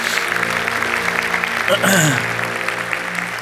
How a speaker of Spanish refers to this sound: Gracias, muchachos, gracias. Den un aplauso a Dios, qué tremendo.